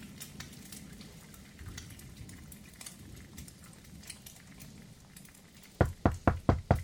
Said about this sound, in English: One evening, as he was watching the coffee boil and the bacon sizzle in the pan, and thinking of how snug his cabin was with the storm raging outside, there came a knock on the door.